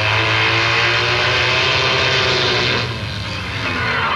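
Evel Knievel's motorbike engine roars loudly and steadily with a low, throbbing growl, easing slightly for a moment before surging again as he speeds off. No one speaks.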